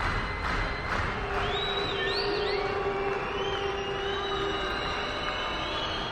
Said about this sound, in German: So ein Buh-Konzert ist natürlich weniger schön für die, die auf der Bühne stehen. Publikumsmusik kann eben so oder so ausfallen.